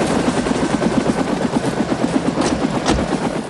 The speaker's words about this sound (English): A dark grey-green helicopter descends towards the ground in an area of forest station. A red SUV with an Aegis logo is on the ground near to the helicopter.